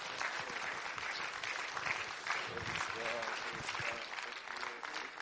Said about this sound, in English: Now, why don't you just give the Lord a hand clap of praise? Amen.